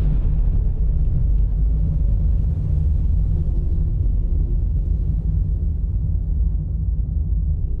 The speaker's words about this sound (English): Sparks from the collision ignited fuel barrels on the deck of the Mont Blanc that then detonated the 2.9 kilotons of TNT packed tightly in its hold.